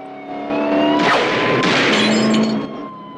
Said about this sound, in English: Rambo ducks as a bullet punctures his window.